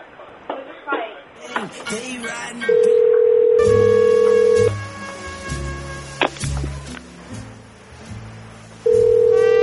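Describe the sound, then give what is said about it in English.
A phone call to the Ruin Thai restaurant rings out with a steady ringback tone, two long buzzing rings separated by a pause and no pickup, over busy background noise with some voices. “No answer there.”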